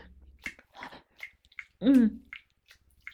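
Strange, labored gasping breaths of a teacher trying hard to breathe: a run of short, breathy huffs, then one loud strained voiced gasp that slides down in pitch, followed by a few faint puffs of air. No one speaks.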